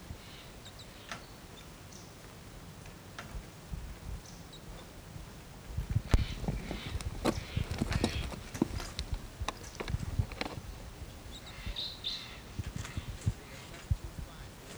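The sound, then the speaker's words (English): Faint, high chittering chips from two crossbills perched toward the top of a medium-sized Ponderosa pine, a chittery call rather than flight calls, come in short bursts, partly masked by louder irregular clicks and low rumbling noise. “They're not getting flight calls, but some other kind of chittery call.”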